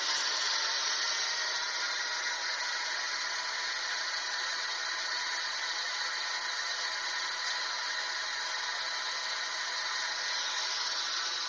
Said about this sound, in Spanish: Vamos a probar haciendo preguntas utilizando este ruido blanco. De nuevo, con total respeto, utiliza el ruido blanco para manifestarte, si puedes.